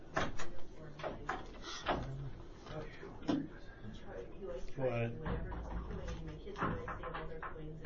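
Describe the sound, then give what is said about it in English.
A door is handled, pushed and propped open during a meeting in open session, giving several sharp clunks and thumps, with indistinct voices murmuring in the room throughout. “if you'll prop that door open for us.”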